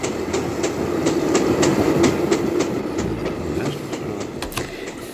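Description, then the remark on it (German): A train rolls steadily along the rails across the American continent, travelling on from San Francisco, its wheels clicking in a regular clickety-clack rhythm over a continuous low rumble, fairly loud with no voices. “Von dort aus ging es weiter mit dem Zug quer durch den amerikanischen Kontinent.”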